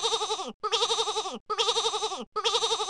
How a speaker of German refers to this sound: Okay, es klingt doch wirklich niedlich, das kleine Uesandschaf.